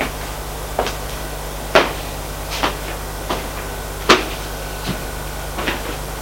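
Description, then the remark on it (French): A bookcase door opens with a series of soft wooden knocks and clatters, several brief taps spaced irregularly over a steady low hum, fairly quiet, as a man opens it to look at the books. “Il ouvre et regarde des livres.”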